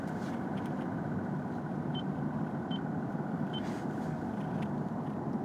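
Steady, dense rumble of road noise inside a moving car, continuous and fairly loud throughout, with three faint, short high beeps spaced out near the middle.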